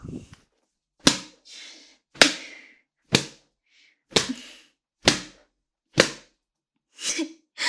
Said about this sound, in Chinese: 被你的母上大人这样用鞭子抽打着下面，爽吗？